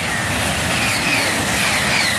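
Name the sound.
high-speed train passing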